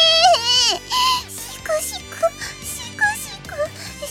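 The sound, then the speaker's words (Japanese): A voice sobs and wails in exaggerated, theatrical fake crying in a CD drama, with repeated rising and falling whimpers over a light musical backing, fairly loud. “シクシク 泣いてますけど。”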